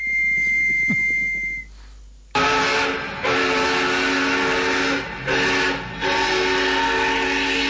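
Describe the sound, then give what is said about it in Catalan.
After a brief high tone and quiet rumble, a loud, sustained steam train whistle blasts as the train departs from Tarragona, with a rich harmonic shriek and hiss, dipping briefly twice; no one speaks. “Avui anem en tren, estem a Tarragona, i pugem al tren, i que el cap d'estació ens doni permís per sortir.”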